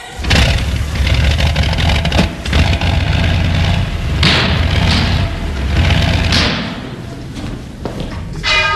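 An aeroplane's propeller engine, started by hand-swinging the propeller, catches with a loud clattering cough and runs roughly, thumping and roaring steadily for several seconds before easing slightly near the end. No voices are heard.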